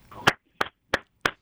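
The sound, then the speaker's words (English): A single person claps four times for Connor at an even, unhurried pace, each clap a sharp, crisp smack. A brief low murmur comes just before the first clap. “That's me clapping for Connor.”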